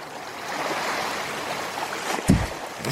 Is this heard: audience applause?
no